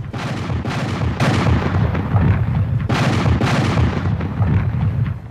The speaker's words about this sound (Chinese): 7月3号早上，北军做好了战斗准备，从他们所在的位置可以看到南军部队架设火炮，130多门火炮全部指向北军中段防线。上午过去了，天气越来越热，下午一点钟刚过，南军大炮打响一下又是一下，这个是行动的信号。